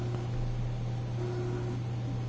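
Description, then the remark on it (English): A steady, low electrical hum from an air conditioner running on a low setting drones evenly under a faint wash of background hiss, with no voices or other sounds. “No, it's probably the air conditioner in the background. It's on low, but like I need it up here, so.”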